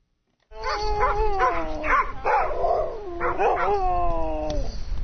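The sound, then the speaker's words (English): A pack of sled dogs on the southern Kenai Peninsula howls and barks excitedly outside a house in a blustering snowstorm as their dinner is scooped into metal bowls. Several overlapping wavering howls and yips fill the scene continuously and loudly, with a low rumble of wind underneath. “Her sled dogs wait excitedly as she scoops their dinner into metal bowls.”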